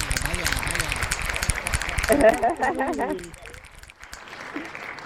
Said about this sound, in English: Finger snapping, hand clap.